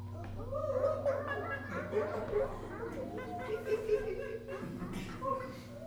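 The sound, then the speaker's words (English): A group of children making playful monkey-like hooting and chattering noises, voices overlapping loudly and continuously with bursts of giggling mixed in. “What sound does like a monkey make?”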